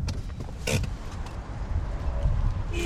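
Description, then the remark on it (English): A car pulls in and parks at the far end of a full-service filling station complex with hydrogen fuelling on the outskirts of Reykjavik, Iceland, past the car wash, pumps, convenience store and snack bar. Its low engine rumble is steady throughout, broken by a brief creaking clunk early on and a faint mechanical whine toward the end. “parks at the far end of this full-service complex, past the car wash, the pumps, the convenience store, and the snack bar.”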